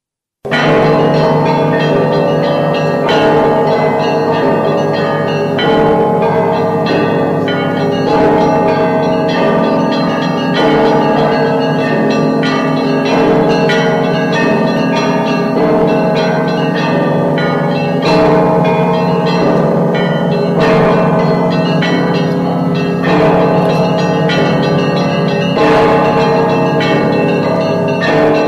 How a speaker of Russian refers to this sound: Москва вновь услышала голос колоколов, считавшихся лучшими в стольном граде князя Даниила